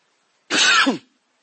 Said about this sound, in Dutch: Even hoesten.